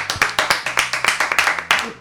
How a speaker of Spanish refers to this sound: Aplauso fuerte